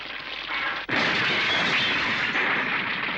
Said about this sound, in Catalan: Un helicòpter cau estimbat vora les restes d'uns altres dos.